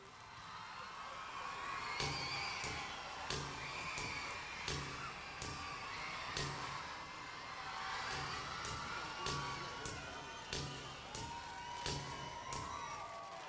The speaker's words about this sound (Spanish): I aplaudiments al públic, ha agradat molt, ha agradat molt aquesta coreografia.